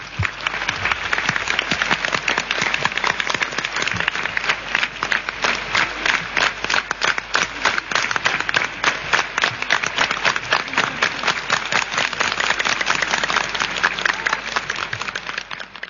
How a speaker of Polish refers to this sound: tym razem bardzo wam dziękuję za te oklaski w imieniu Mickiewicza.